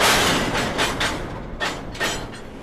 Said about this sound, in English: Empty train cars roll along tracks and snap together.